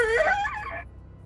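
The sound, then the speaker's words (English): A door creaks loudly as it is slowly opened just enough to squeeze through, a drawn-out squealing groan with a wavering, sliding pitch that lasts under a second before fading into quiet. “It takes you a few seconds to sort as the door goes”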